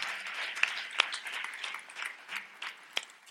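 A crowd applauds steadily, a dense patter of many hands clapping with a few sharper claps standing out, moderately loud, with no voices over it.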